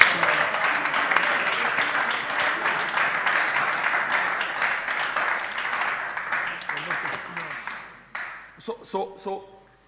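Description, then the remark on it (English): A crowd bursts into steady, dense applause for a book on developing optimistic hearts, many hands clapping together for about eight seconds before it quickly dies away and a voice starts up. “You must clap your hands for this book.”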